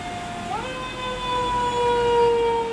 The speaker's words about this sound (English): Oh, it was, yeah, it's a fire engine.